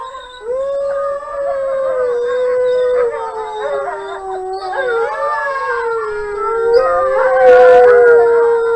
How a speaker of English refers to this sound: Well, let's play, and this is just 9 seconds of a wolf pack, and hear what that sounds like.